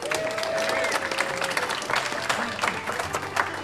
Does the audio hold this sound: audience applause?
yes